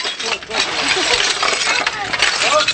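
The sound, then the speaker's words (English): An elderly woman shovels broken glass to clear a living area in the ruins of a Ba'ath compound in Iraq: a steady scraping with bright clinks and tinkles throughout, over a low engine-like rumble and faint background voices. “An elderly woman with rotten teeth is shoveling broken glass to clear a living area.”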